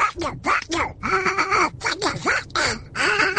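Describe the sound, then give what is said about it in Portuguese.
A man's voice imitates Donald Duck, producing a rapid stream of raspy, quacking pseudo-speech in short bursts, loud, with no other sounds around it. “e também pelas dezenas de imitações do Pato Donald, como esta”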